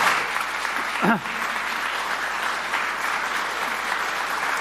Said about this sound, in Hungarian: Egy nagy tapsot szeretnék kérni a két vendégünknek.